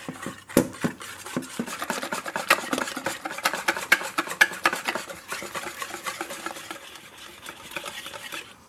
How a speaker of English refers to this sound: Now what you're going to have to do is use your whisk to blend everything mm-hmm. until it's really smooth and frothy.